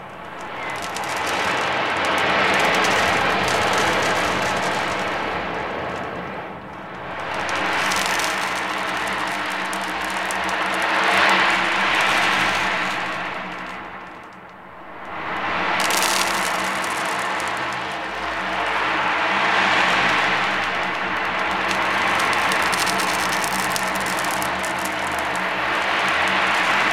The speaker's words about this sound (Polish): No to na samym początku, jako że jesteśmy nad morzem, to zapraszam do bębna oceanicznego, który troszeczkę przypomina szum fal morskich.